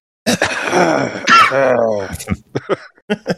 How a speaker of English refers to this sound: Yeah, I like the uncomfortable cough as after like, oh, you get to meet all the cool kids.